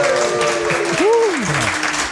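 A live audience at a show recording breaks into cheering and applause, a dense wash of clapping with whoops and a rising-then-falling shout rising above it, loud and steady throughout.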